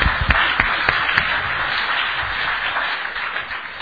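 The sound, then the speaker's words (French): A church audience applauds the youth praise team, a dense wash of many hands clapping with a few sharper individual claps at the start, holding steady and easing off slightly toward the end. “Il faut applaudir cette équipe de louange, les jeunes, hein, c'était vraiment magnifique.”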